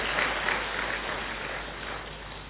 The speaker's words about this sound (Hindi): ताली बजाओ, बड़ी बात नहीं है।